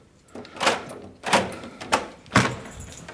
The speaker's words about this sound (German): So, wir können jetzt die Türen öffnen und kommen erst in einen Zwischenraum.